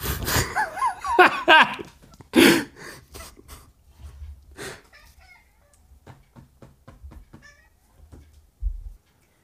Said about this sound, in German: So, also wir haben einen Kater mit dabei, während wir hier über Konflikte sprechen. Und sein Konflikt ist einer, dass er nicht genügend gestreichelt wird. Deswegen stört er uns hier ab und zu.